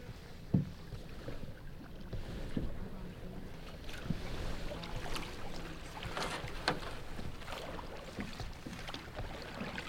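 Quiet outdoor scene on open water with soft splashes and knocks of a paddle against a canoe, irregular strokes and faint wind, no talking. Two people paddle the canoe during duck season, one in the bow and one steering from the stern, heading out to a duck hunting spot.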